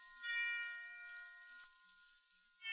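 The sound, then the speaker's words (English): Bells ring for Christmas with a long, shimmering tone that slowly fades, then a fresh strike chimes in right at the end; the sound is fairly soft, with no voices. “Listen, kid, they're ringing for us. They're wishing us a Merry Christmas.”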